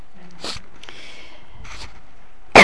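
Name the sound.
coughing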